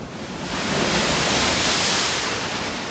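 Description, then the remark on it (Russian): A loud, steady roar of stormy sea waves, a continuous rushing wash that swells up after the first half second and holds heavy throughout, with no voices. “Ну вот перед ними море. Бушует, шумит на просторе. А в море высокое ходит волна.”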